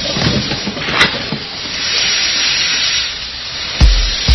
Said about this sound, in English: Sorry, Your Honor, a steam engine doesn't just shut off right away.